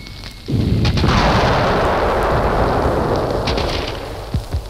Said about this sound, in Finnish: Puna-armeijan tykistö avasi tulen Karjalan kannaksella 30. päivä marraskuuta 6:50 aamulla ilman sodan julistusta ja puna-armeija ylitti rajan.